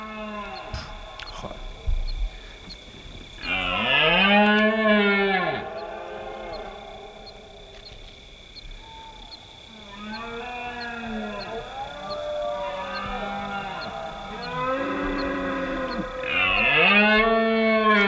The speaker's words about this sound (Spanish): Están allí, estamos viéndolos por infrarrojos, pero estamos contando lobos, pero a nuestro alrededor escuchando los bramidos de los ciervos en berrea.